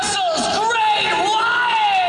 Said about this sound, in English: Yeah, so the crowd go nuts. Honestly, in the crowd, I can count four people.